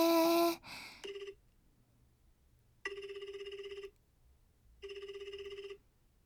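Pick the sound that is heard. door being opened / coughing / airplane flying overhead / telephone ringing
telephone ringing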